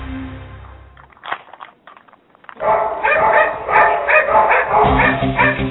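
Several dogs bark and yip excitedly, close by and loud, with overlapping high-pitched yelps forming a busy chorus after a brief quieter stretch.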